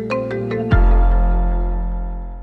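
A short chime: four quick, bright tonal notes strike in succession, then a loud, deep sustained chord rings out and slowly fades. No one speaks.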